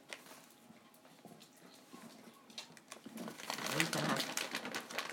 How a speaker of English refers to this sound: Excuse the rustling.